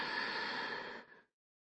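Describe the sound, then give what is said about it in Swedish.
A single steady, breathy exhale through the nose lasting about a second, fairly soft, tapering off into silence, during a breathing exercise done lying on the back. No one speaks. “Och släpp taget på utandningen.”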